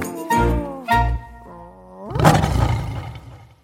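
A female dog named Perla lets out a lion-like roar: two short growly bursts, a rising whine, then a loud, raspy, sustained roar, with no talking.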